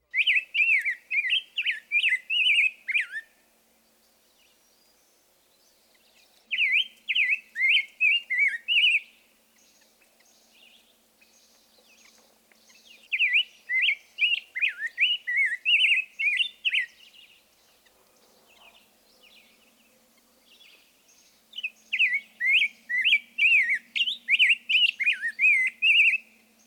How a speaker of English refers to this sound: Perhaps the most exuberant singer of this group, and the one with the richest tone, is the rose-breasted grosbeak. In fact, we could well have placed this bird in the whistler category. Listen to his sing-songy whistle.